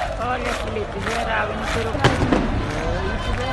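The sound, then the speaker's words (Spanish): A dense crowd of thousands of Flamengo fans surrounding the team bus cheers and chants in a steady, loud roar of many voices, sending off the team before the Copa Libertadores final, with a few sharp bangs cutting through about halfway. “Este es el ambientazo que había para despedir al Flamengo.”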